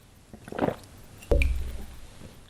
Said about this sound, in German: Tja, meine Stimme leidet schon fast mit, ich muss auch einen Schluck Wasser trinken.